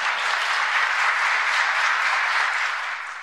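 An audience breaks into sustained applause, a dense, steady wash of many hands clapping together with no voices, holding at an even level before easing off slightly at the end.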